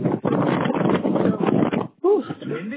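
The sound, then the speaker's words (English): Loud, steady wind buffets the microphone outdoors for a couple of seconds while a person climbs stairs, a rough whooshing roar, before it briefly drops and the person starts talking over the lingering gusts. “It's windy as well, too.”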